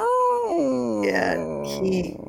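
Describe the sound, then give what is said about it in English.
A cat's long, haunting yowl while the cats stare at each other, loud and drawn out for about two seconds, its pitch sliding down, wavering in the middle, then rising into a strained moan before cutting off. “My cats are staring at each other, so if you hear that weird haunting noise, look at me.”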